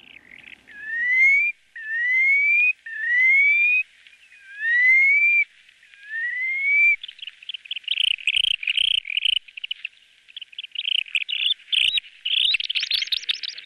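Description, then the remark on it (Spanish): A curlew sandpiper's breeding-season song: five clear, rising whistled phrases, then a fast, buzzy trilling chatter that grows louder toward the end. It is loud, with no voices. “vamos a escuchar al Corralimo Zarapitine”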